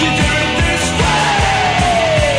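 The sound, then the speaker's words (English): A loud, dense burst of 1980s English punk rock played on a radio show in Spain: shouted vocals over a thick wall of distorted sound, a steady pounding beat, and one held note gliding slowly downward. “Y un poco de sonidos de los años 80, un poco de punky sounds aquí de Inglaterra.”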